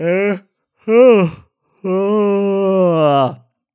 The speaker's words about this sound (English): I'm just yawning here, but it's late, man.